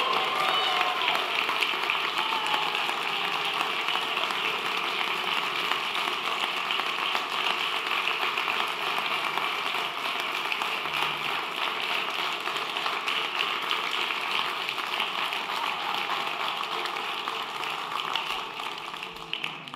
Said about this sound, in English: You know, if you clap this much for just the previews, can you imagine what's going to happen when you get to the movie in the full length?